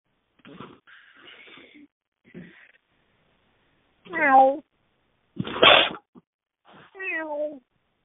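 A cat meows twice, each a clear, falling cry, with a short breathy burst between them and some quieter scratchy rustling in the first couple of seconds.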